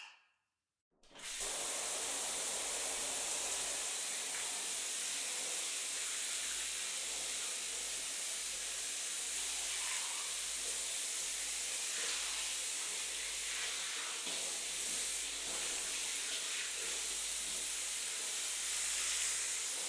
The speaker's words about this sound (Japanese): シャワーで流すね。